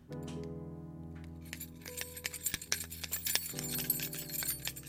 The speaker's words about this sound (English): I'm going to jingle the keys to my new studio.